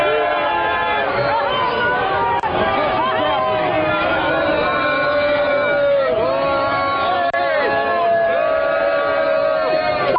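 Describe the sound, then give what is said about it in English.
A large crowd at a rally boos loudly and continuously at a man walking through it wearing an American flag, many voices overlapping in sustained jeers and shouts that fill the whole stretch without a break, dense. “That's a guy that's getting booed because he's walking through the crowd wearing an American flag.”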